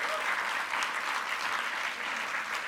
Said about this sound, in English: Give her a round of applause, yeah? Woo, you did it.